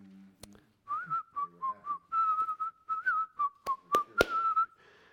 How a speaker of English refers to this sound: do you remember when people whistled?